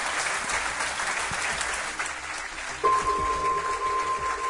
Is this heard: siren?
no